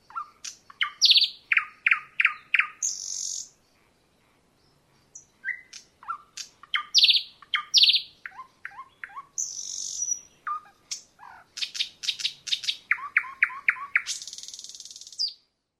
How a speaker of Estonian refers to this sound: Loodetavasti oskate te nüüd paremini ööbiku teiste lindude seast ära tunda. Nagu kuulsite, on ta väga tagasihoidlik lind. Ent suur laulumeister.